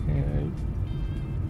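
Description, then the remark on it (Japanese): Steady low road-and-engine rumble from inside a moving car, with the air conditioning running at full, continuous and fairly loud, with a person's voice talking over the drone while driving. “今はちょっと用事があって車で出かけているので、運転中に収録をしています。”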